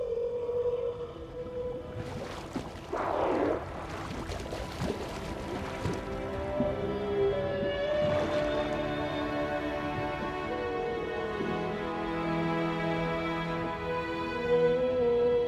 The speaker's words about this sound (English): Humpbacks have been singing these songs for millions of years. Our songs are the ballads of the sea.